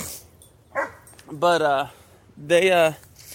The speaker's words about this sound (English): Of course, the dog's going crazy right now.